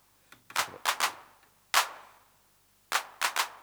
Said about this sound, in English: Now here's our hand clap on the unmodified machine. The first one is at full accent.